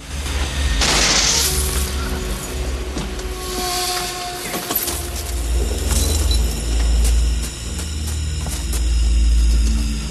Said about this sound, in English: The wheels spin on Danko and Ridzik's bus.